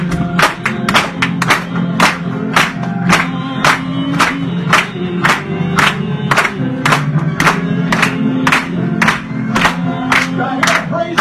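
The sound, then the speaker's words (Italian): An audience claps in a steady, even rhythm of sharp hand strikes while cheers and shouts rise over a low, continuous crowd murmur. “Mettiamo lì le mani stasera!”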